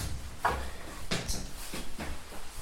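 A front door is opened by a friend to let visitors in on a day of pouring rain, with a latch click and several wooden clunks and rattles spread over a couple of seconds against a low, steady background rumble. No one speaks.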